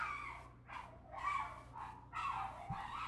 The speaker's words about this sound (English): Those are dogs. Which dog is that? I have no idea. That doesn't sound like the downstairs dogs. No. That sounds like a dog on the sidewalk. This is a neighboring dog. Having a fit. Goodness.